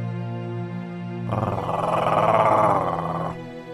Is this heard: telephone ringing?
no